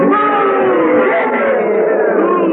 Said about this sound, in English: Now that you have booed and hissed at me, now that I am here, I see that some of you have the spirit of a goof, and some of you the spirit of a snake. That's right, a snake.